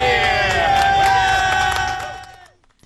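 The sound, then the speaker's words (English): A large crowd in Times Square, New York City, counts down and cheers at a rehearsal of the Waterford Crystal Ball drop for 2023. Many voices shout together in a loud, sustained roar, holding steady before quickly fading out near the end. “A crowd gathered to count down the ball at the rehearsal for tonight.”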